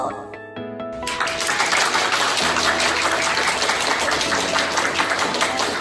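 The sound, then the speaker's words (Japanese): Sustained applause from a live audience at a public recording of the radio show Miyocchi Radio swells in after a brief musical sting and continues loud and steady, a dense crackle of many hands clapping. “拍手。”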